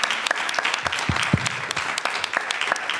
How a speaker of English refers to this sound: a round of applause